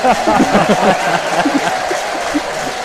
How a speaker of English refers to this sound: And that's the second loudest cheer of the afternoon.